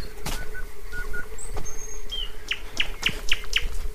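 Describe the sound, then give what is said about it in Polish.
A thrush nightingale singing around midnight beside a dirt road lined with trees and shrubs, amid meadows, fields and marshes between Pyzdry and Zagórów: a series of sharp, repeated chirps and clicks in a quick rhythmic burst, with a few higher whistled notes, against a quiet, slightly noisy background. “Teraz nam jeszcze podśpiewuje słowik. Jest to słowik szary, czyli ten bardziej wschodni gatunek słowika, bo tutaj na tym terenie usłyszeć można dwa gatunki słowików.”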